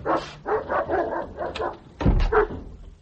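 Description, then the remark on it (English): A pet hound barks repeatedly in a quick, uneven run of yaps, followed by a louder, deeper pair of barks near the end. “It's just me and the hound, I'm afraid. Oh, for God's sake, dog!”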